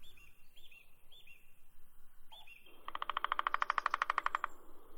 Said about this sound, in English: Oh, listen. Very sweet. Here we have the birds singing, the beautiful nature, and a new adventure in Iran. Yes, I'm in Shirabad Park in Golestan province, and our today's destination is Shirabad Waterfall.